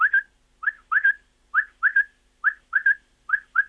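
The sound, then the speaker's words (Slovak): A quail calls repeatedly in quick three-note phrases, each a liquid, whistled 'whit-wit-wit' at a mid-high pitch, repeated about five times with short pauses between, clear and alone with no voices. “No a potom tú prepelicu ľudia poznajú.”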